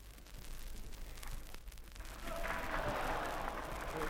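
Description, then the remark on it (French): An audience at a political speech breaks into applause, a dense wash of clapping that swells louder about halfway through and keeps going steadily, with a low background rumble underneath. “Je vous demande de ne pas applaudir parce que comme ça, ça ne donnera à personne l'envie de me siffler.”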